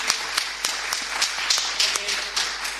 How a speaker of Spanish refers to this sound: Pues ok, venga, vamos a dar un aplauso, ¿no?